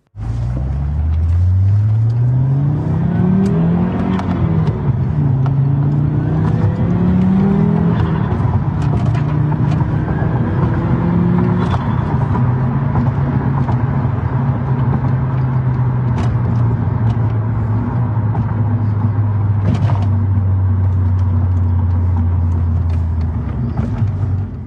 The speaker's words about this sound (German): Und jetzt fahren wir in Kurzprobe den Audi RS2. Gibt leider ein kleines bisschen Nebengeräusche, aber wenn ihr ganz genau hinhört, könnt ihr dafür sogar den Turbo pfeifen und das Wastegate zwitschern hören.